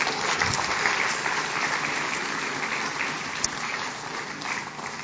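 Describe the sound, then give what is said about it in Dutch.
Thunderous audience applause from young people, a dense steady roar of many hands clapping at once, holding loud and even for several seconds with no voices on top, given for the people who stepped aside for them. “En als jullie jongeren dat nou ook zo mooi vinden, als jullie ook zien wat ik zie, namelijk de mensen die voor jullie opzij zijn gegaan, wil je dan voor al die mensen even een daverend applaus geven?”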